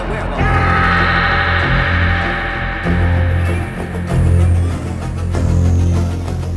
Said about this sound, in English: Suddenly, he hears the harsh, guttural growling of the werewolf.